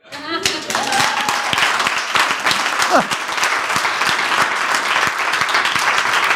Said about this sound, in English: They're clapping because I quit.